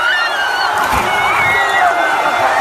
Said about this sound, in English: But the beginning part, you can't really tell if this is an excited crowd at Kentucky because they just won a football game or a shark attack. Yeah. A scene from Sharknado 6.